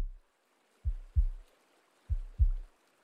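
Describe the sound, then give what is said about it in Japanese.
A heartbeat pounds, deep muffled thumps arriving in two lub-dub pairs against near silence, with no voices present. “胸の音がずっと激しい。”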